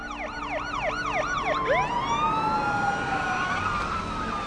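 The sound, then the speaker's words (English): Police sirens wail loudly, a fast warbling yelp sweeping up and down before shifting into a long, rising and falling wail, with several sirens overlapping over traffic rumble, as several police cars converge on the street in front of McKenna's house. “several police cars converge on the street in front of McKenna's house.”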